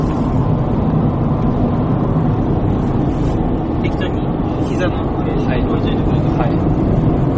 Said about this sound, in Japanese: 重く走ってるから結構車の音入ったよね。 窓とか開いてないですかね。 開いてないよね。